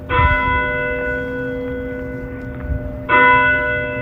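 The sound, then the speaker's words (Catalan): The bell of a neighbouring church tolls twice, about three seconds apart, chiming the quarters. Each strong, resonant strike hums and lingers, filling the space between strokes, with no voices present. “Les campanes d'una església veïna tocaren els 4 quarts i Scrooge parà l'orella per saber l'hora.”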